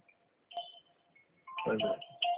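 A phone rings with an incoming call, playing an electronic ringtone: short, bright beeping tones repeat over a steady lower tone, moderately loud, with a brief rustling burst midway and no talking.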